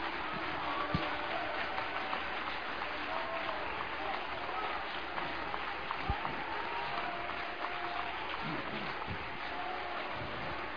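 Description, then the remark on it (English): A large audience applauds steadily during a sermon as the preacher calls for applause, a dense wash of clapping that holds at an even level for the full stretch, with faint crowd voices mixed underneath. “Come on, applause, applause.”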